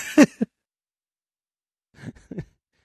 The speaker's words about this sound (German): Hustest du mir den ins Ohr? Ich gebe mir die ganze Zeit Mühe mit meiner Hustendisziplin und dann haust du mir einfach einen raus.